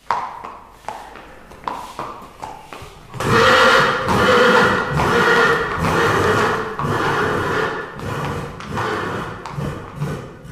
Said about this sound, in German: Ich stehe tatsächlich mitten im Trainingszentrum am Heldenberg in den Stallungen der Lipizzaner Pferde. Diese graziösen weißen Pferde sind wunderschön.